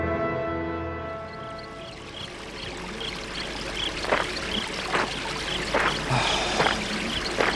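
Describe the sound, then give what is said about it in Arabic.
Steady rushing river water flows continuously by the bank of a river near a mill, with occasional brighter splashes and gurgles breaking through the broad wash. No one speaks; the water sounds fairly loud. “الأفضل أن أبيت الليلة عند شاطئ هذا النهر وبالقرب من هذه الطاحونة لأغادرها في الصباح الباكر.”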